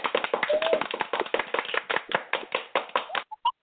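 Hands clap in a quick, uneven flurry for about three seconds, like a small group applauding, then stop abruptly. A couple of short, higher tonal blips follow at the very end.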